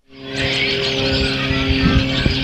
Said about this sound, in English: It's an otherwise peaceful Monday morning in the old river town of Peru. The birds are chirping as a small plane passes overhead.